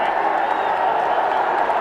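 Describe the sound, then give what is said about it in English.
A large cricket stadium crowd roars in a steady, sustained wall of noise while an umpire review checks whether a Ben Stokes delivery to Ashwin hit the glove or the shoulder. The noise is loud and continuous throughout, with the blended murmur of many voices and no clear individual speech. “Well, the crowd is roaring because it looks to me as though that ball has missed the glove and hit the shoulder.”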